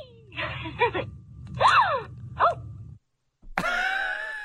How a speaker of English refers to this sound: That's a delighted gasp too. Like that doll likes this.